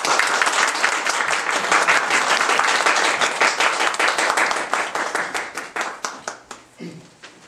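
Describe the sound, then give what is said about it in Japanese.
On Easter Day, an audience applauds to welcome new members of God's family, with dense, steady clapping that holds strong for several seconds, then thins into scattered individual claps and fades out near the end. “それでは新しい神の家族ですので、拍手を持って皆様お迎えください。”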